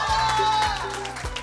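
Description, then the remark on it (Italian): An audience applauds in a steady, dense wash of clapping that holds at an even, fairly loud level throughout, with a faint sustained tone running underneath. “Applauso.”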